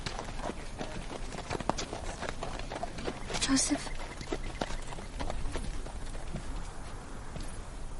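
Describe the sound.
Donkey hooves clip-clop at a steady walking pace as a person rides the donkey, while a person speaks over the rhythmic tapping.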